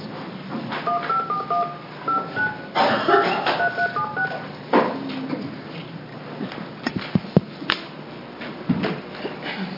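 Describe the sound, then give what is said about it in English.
A rapid series of short electronic keypad tones beeps out a phone number to dial into a meeting call, each tone a brief two-pitch chirp, followed by rustling and clicking handling noises. “We're making a phone call, and then we'll start meeting again in a moment.”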